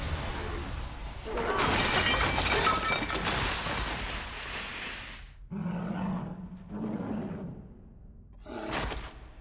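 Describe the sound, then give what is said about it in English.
A loud crash as a creature is tossed across a hall into a banquet table: a dense smash of breaking objects with scattering debris lasting a few seconds, followed by rumbling thuds and a growling roar. “It crashes into the banquet table.”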